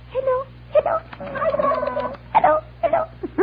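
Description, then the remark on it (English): A turkey gobbles in a rapid, warbling rattle, then lets out several shorter, choppy gobbles. The calls are loud and clear with no one talking over them. “Who ever heard of chloroforming a turkey?”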